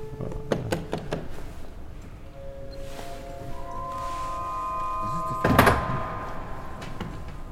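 Sustained organ tones swell and fade while the wooden doors of the organ's swell box, a cupboard with doors enclosing part of the organ, thunk open and shut, with a louder rattling clatter near the end as the doors move, and no talking.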